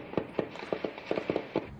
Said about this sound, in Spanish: De noche se escuchan disparos.